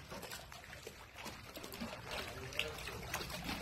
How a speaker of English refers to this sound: Got waves in my pool.